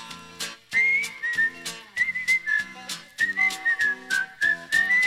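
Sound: person whistling a tune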